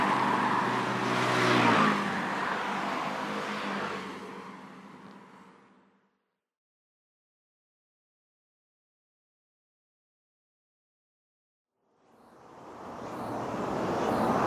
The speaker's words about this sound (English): Now, traffic fade out.